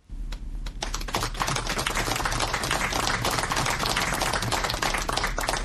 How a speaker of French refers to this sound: C'est une foule parmi laquelle deux ministres et les militants du RDPC parti au pouvoir qui applaudit l'arrivée de Mama Abakaï, maire de Lagdo, et 10 autres anciens otages à Yaoundé.